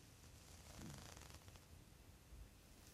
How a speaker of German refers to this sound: Magenknurren. Ich hab's ja gesehen. Und, was war's? Reißverschluss. Reißverschluss.